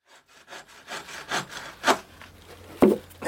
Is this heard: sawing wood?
yes